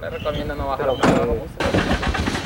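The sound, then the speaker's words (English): A truck engine cranks and turns over as farmworkers crowd into the back, then settles into a steady rumble as the truck drives up a winding mountain road, with indistinct voices murmuring in the background throughout. “When the major finishes talking, the campesinos cram into the back of their truck. They drive up a tortuous mountain road towards home, but are stopped at numerous army checkpoints.”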